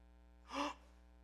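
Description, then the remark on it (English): A short, sharp collective gasp from a crowd, rising and fading within about a quarter second over a steady low hum, with no talking. “I heard that. That gasp.”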